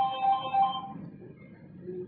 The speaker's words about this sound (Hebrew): יש לי מישהו שמע טלפון שמצלצל, נא לנתק אותו בבקשה.